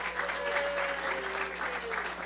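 An audience claps in a steady, dense round of applause, a continuous crackle of many hands at an even loudness, with a faint tonal whistle-like line drifting beneath it.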